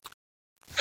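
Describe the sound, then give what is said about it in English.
A brief faint sound, a pause of near silence, then a single loud sneeze bursting out in a harsh, hissy rush at the very end. “Bless you”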